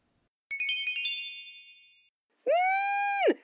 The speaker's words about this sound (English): His phone buzzes again as he's unlocking the front door.